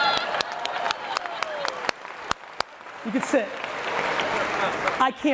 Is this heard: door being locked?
no